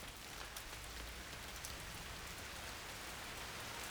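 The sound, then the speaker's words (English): Steady rain patters on a surface, a dense, even hiss of countless drops with no pauses, continuous throughout, with no voices or thunder. “It's starting to rain again.”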